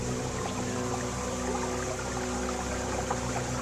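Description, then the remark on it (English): A steady, dense rush of water from a waterfall pouring down into a river roars without pause, with a faint low hum running beneath the constant wash. “Hear the sounds of the waterfall as it pours down into the river.”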